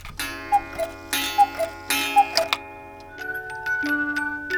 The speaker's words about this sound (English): who's going to keep it and all the other timepieces they care for ticking